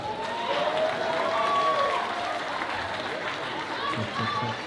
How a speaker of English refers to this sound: Come on up, ma'am. Y'all clap it up for the woman in the dress.